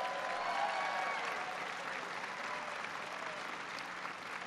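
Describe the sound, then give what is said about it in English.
An audience in Minnesota claps steadily for several seconds, applauding Secretary Fox for his introduction, a dense, even wash of many hands with no single claps standing out and no voices on top. “In addition to Secretary Fox, who I want to give him a big round of applause for that introduction.”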